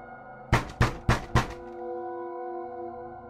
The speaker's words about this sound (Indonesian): Tiba-tiba dengar macam tingkap kena ketuk dari luar.